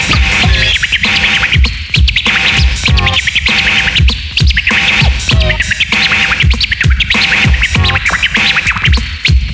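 Turntable chirp scratching by a DJ, made to sound like a bird: quick chirp-like strokes, bright repeated record sweeps cutting in rapid rhythm over a thumping beat, loud and continuous throughout.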